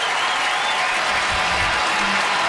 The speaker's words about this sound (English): Crowd of just over 20,000 announced, making noise to help Piamps.